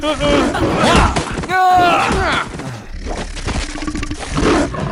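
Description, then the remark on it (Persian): Loud, throaty werewolf roars and snarls overlap, with a wavering howl-like cry rising midway through a dense, continuous, chaotic din. “اینا گرگیرن.”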